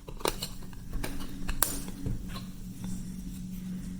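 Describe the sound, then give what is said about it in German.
Small plastic clicks and light scraping as a laptop keyboard connector latch is flipped up to release the keyboard port cable, with a few sharp ticks over a steady low hum. “Das machen wir, indem wir dieses Ding hier hochklappen.”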